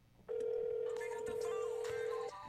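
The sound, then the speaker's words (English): A phone call to the caller's sister ringing while waiting for pickup: one steady, loud ringback tone lasting about two seconds, then cutting off, with faint background noise around it and no talking. “I'm gonna call my sister. See if she picks up.”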